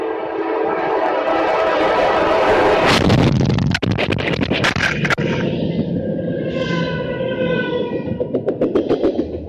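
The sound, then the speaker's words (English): A train horn blares steadily over rumbling rail noise as the train approaches, then a violent crash erupts as the train strikes a car, a burst of clattering, scraping jolts while the horn keeps sounding. The audio from a body camera tumbles and muffles in bursts as the wearer is flipped around. “The thing about it is you hear the train coming and the way the audio changes as he gets flipped around.”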